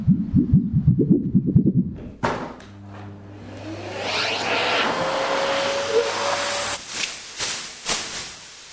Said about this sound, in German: Ich habe einen Staubsauger gehört.